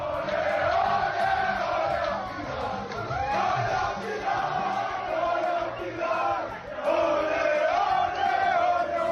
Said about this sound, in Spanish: Le endosó un rotundo 3-0 a un Leipzig muy inferior durante todo el partido. Así estaba el vestuario parisino con gritos de celebración en castellano.